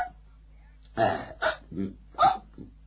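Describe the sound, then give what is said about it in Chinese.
A voice imitates a series of burps, as of someone stuffed full after eating: about five short, throaty belches in an uneven rhythm over a couple of seconds, fairly loud, with no other talk. “时间不大，风卷残云，把大半部分都吃了，最后撑得直打饱嗝。”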